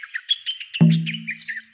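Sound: birds chirping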